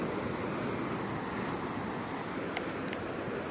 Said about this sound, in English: And the sound that you are listening to there as we cross the volleyball court is the Atlantic Ocean.